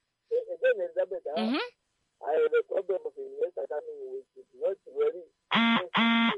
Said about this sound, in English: No, I mean, like your battery, your phone is giving warning signs. Or is it SMS is coming? Ah, it's SMS, man.